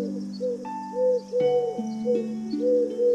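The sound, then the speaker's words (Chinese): A dove coos in soft, repeated rounded phrases, several in a row, over a steady, sustained musical drone with no talking. “很快，挪亚看见鸽子回来了，停在方舟窗户旁边的屋檐上，等着挪亚让它进来。”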